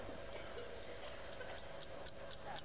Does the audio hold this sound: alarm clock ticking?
yes